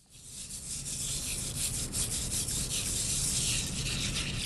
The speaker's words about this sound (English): The first thing that hits you when you lean into the enormous tanks filled with water, where scientists use small brushes to clean the timbers, is the smell.